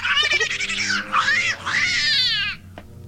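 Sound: cat yowling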